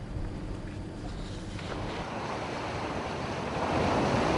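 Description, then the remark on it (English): Rushing floodwater of the Indus River in Sindh province, Pakistan, after monsoon-triggered floods, roars steadily in a dense, continuous wash of noise, swelling louder in the final second, with no voices present. “The mighty Indus River has been smashing almost everything from the northwest to the southern Sindh province of Pakistan after the monsoon-triggered floods 2 months back.”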